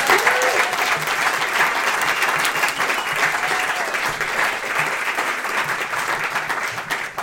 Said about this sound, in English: Well, thanks for playing. One more round of applause for them.